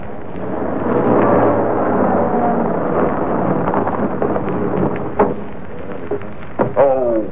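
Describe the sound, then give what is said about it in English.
Heavy rain falls in Bay Tree Road, Brixton, as a car pulls up: a steady, dense hiss while a deep roll of thunder rumbles through the first half, followed by a few sharp, brief knocks and tones toward the end. “For at the precise moment it began to fall in real earnest, a car pulled up in Bay Tree Road, Brixton.”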